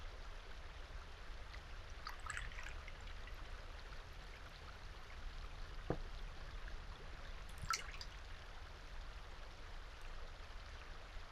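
A soft, steady trickle of local sake from a nearby brewery being poured into a cup, quiet, with a couple of faint clinks or taps partway through and no talking.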